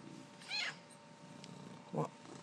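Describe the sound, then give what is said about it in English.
A cat named Simba makes two short purring trills, one higher and one lower, about a second and a half apart, against a quiet background with no talking. “He's just purring at you instead.”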